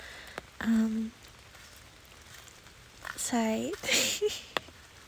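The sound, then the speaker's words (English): Light rain patters steadily during a walk in the rain, recorded on a phone, with a few sharper drop impacts, while a person makes brief wordless vocal sounds over it. “But I'm on a walk in the rain.”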